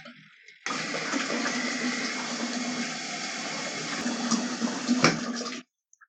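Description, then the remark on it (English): Water gushes steadily from a tap into a bathtub for about five seconds to warm up the bath water, a loud, continuous rushing that starts abruptly and cuts off cleanly. “How's the temperature? Too hot? Too cold? A little bit chilly? Here, let's warm it up.”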